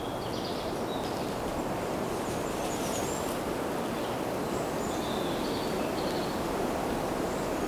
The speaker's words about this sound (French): Le bruit de fond du vent.